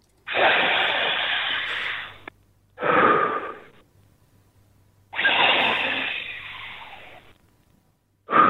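Loud, deep breaths with nothing else over them: a long rushing breath, a shorter one, another long one, then a fourth starting. They have a muffled, phone-line quality with a faint low hum.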